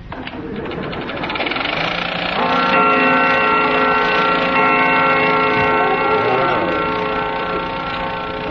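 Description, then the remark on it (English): A grandfather clock strikes two o'clock, its loud, resonant bell tones ringing out and lingering over a steady mechanical whirr, with no voices. “It was the grandfather clock striking 2, mean.”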